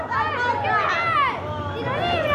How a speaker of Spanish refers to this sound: ¡Eh! niños jugando en la calle. ¿Tú los ves?